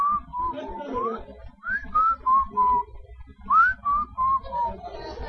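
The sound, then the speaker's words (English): Someone whistles a casual, wandering tune in three short phrases of rising and falling notes with brief pauses between, over a low background rumble. “What do? Just kind of keep whistling and...”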